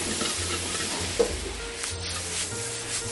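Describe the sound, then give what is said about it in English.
Stir-fry ingredients, including finely sliced raw carrots, bean sprouts, soy sauce and hot sauce, are stirred and tossed in a hot pan over a steady, bright sizzling hiss, with soft scraping and a single sharp clink partway through. No one speaks. “We'll mix that around again.”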